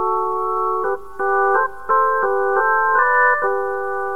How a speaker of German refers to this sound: Es gab damals nicht bloß im Programm von Radio Bremen Verschnaufpausen mit solchen Pausenzeichen.